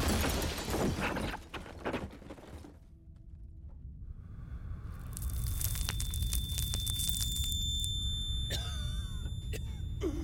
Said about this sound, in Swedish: Men så hörs något. Ett visslande ljud och en snabb duns. Granateld. Ernest hinner inte reagera förrän något slår ner en knapp meter ifrån honom.